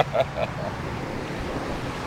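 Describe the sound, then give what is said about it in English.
A river rushes furiously past below the Tolman Stone in a steady, unbroken roar of churning water with a heavy low rumble, and a couple of faint short tones come through in the first half second. “the river's running furiously past below.”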